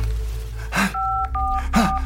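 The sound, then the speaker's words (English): Three short electronic keypad beeps from a phone being dialed to call 911, evenly spaced, each a clean dual-pitched tone, with soft rustling handling noise between presses. “He is in a full-blown panic now and grabs his phone to dial 911.”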